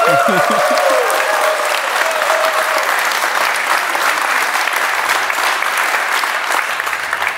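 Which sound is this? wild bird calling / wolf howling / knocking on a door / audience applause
audience applause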